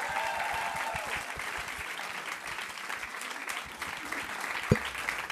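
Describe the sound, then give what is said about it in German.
Sustained applause from an audience in Schwäbisch Hall, a dense wash of many hands clapping at steady volume, with a faint voice or cheer near the start and one sharper clap near the end. “Ein Riesenapplaus für unseren ängstlichen Hund.”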